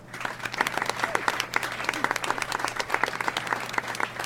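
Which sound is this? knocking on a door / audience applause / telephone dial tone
audience applause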